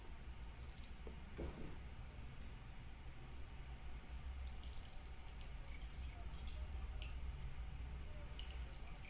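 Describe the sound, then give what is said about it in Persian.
Soft wet handling sounds, scattered small drips, squelches and clicks as the skin is peeled off roasted eggplant that has been soaking in water, over a steady low background hiss, with no talking. “حالا باید پوستاشو بگیرم، تمام پوستای بادنجونو باید بگیرم. ببینید چون تو آب بوده پوستش راحت کنده میشه.”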